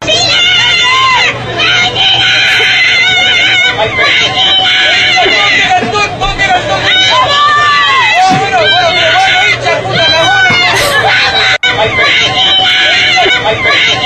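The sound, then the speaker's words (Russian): A large crowd loudly shouts a Chilean greeting cheer, many voices overlapping in continuous yells with rising and falling cries, sustained for over a dozen seconds with a brief dip near the end. “А, я не знаю, почему, но это приветственный клич какой-то.”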